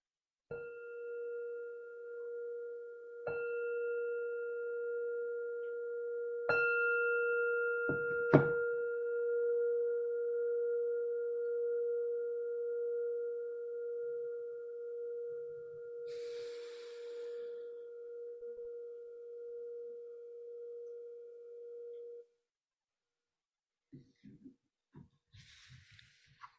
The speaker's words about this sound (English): preparing yourself for the sound of the bell. Gently inviting you back from this meditation.